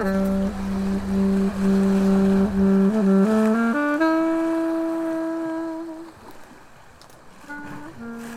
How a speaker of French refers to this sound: Ce soir, c'est soirée cargo. Ambiance moteur